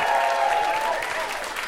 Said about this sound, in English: Clap it up for yourself. Thank you. That's been awesome.